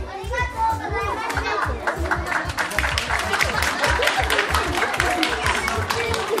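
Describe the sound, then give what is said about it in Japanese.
A crowd of children cheers and shouts loudly and continuously, with scattered clapping mixed in, their excited voices overlapping as they urge on classmates in a bout from around the sumo ring at a school sumo tournament for first- to sixth-grade pupils. “土俵の周りでは戦う仲間を元気な声で後押し。”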